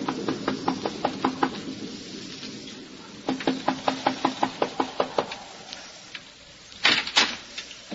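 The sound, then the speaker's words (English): A solitary traveler knocks on the wooden door of the Wharton farmhouse, a lonely cottage in Westchester County, early in the evening as a storm approaches: two bursts of rapid, evenly spaced knocking, a dozen or so sharp raps each, separated by a short pause, then a couple of heavier thumps. No one speaks. “He knocks at the door.”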